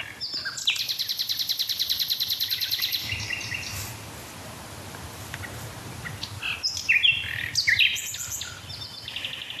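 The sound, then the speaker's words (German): A nightingale sings alone, starting with a fast, rattling run of repeated notes, then a pause before varied, bright phrases and whistles, over a low background hum. “Nochmal nachgelesen, es sind 300 Motive, die man bei einer einzigen Nachtigall gezählt hat.”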